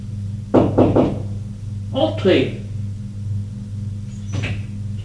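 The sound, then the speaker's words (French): A few quick knocks on a door, distinct, followed by a couple of duller bumps and shuffling over a steady low hum. “On frappe à la porte.”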